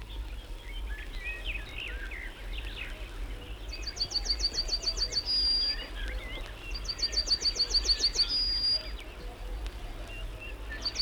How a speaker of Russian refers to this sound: То вскоре услышишь синь, синь, синь. Это на кусте вербы поет желтогрудая овсянка. Синь, синь, синь, все чаще вызванивает она.